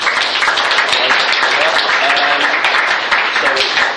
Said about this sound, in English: So, round of applause there.